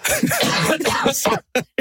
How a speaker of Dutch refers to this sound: Sorry, ik ben heet verkouden, dus ik ga heel vaak hoesten.